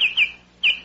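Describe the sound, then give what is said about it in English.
Three short, clear whistled notes of a Baltimore oriole call: two in quick succession, then a third after a brief pause, each sliding slightly downward, moderately loud with no other sounds. “That was the Baltimore Oriole, asking for more money this year.”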